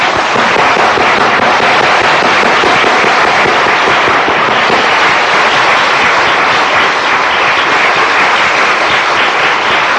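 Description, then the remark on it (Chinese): An audience applauds loudly and without pause to welcome 15 people baptized that afternoon, a dense, steady wash of many hands clapping that holds for the full ten seconds with no voices on top. “你看那个拍掌的声音不停止，你看大家多么高兴，不但地上的人为你拍掌，天上的天使天君都为你唱歌。”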